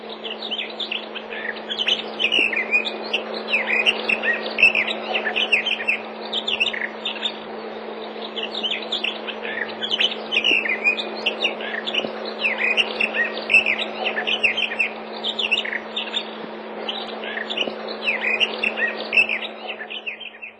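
Warblers sing continuously from shoreline bushes, quick bright chirping phrases overlapping throughout, with a steady low hum underneath and no voices.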